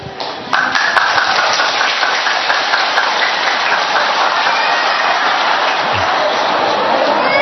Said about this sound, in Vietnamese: Đây, một tràng pháo tay thật to cho hình ảnh. Một em bé biết ngay từ bé đã biết cho đi.